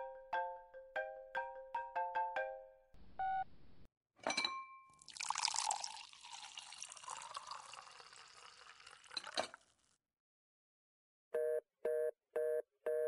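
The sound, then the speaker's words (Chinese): A phone ringtone plays a quick melodic run of electronic notes, followed by a long stretch of noisy clatter, then four short, evenly spaced, loud ring bursts. No one speaks. “你先接电话吧。”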